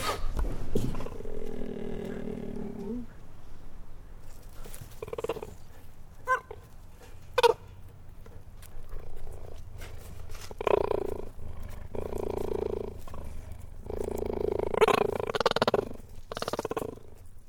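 A cheetah growls and purrs up close as a person slowly and gently approaches it, a steady low rumble broken by drawn-out, throaty growls that swell and fade several times, with a few sharp clicks in between.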